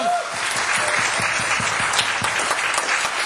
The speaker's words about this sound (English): Okay, I'm going to give you another chance to clap at that. That was awesome.